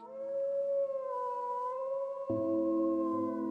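Several wolves howl together in long, sustained, overlapping wails, with a lower voice joining partway through. The chorus is steady and fairly loud, with no talking.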